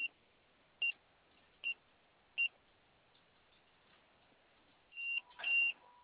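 Short electronic beeps from a security keypad in a glove compartment as the code 1414 is punched in: four evenly spaced single tones, then a pause and a couple of quicker, longer beeps at the end.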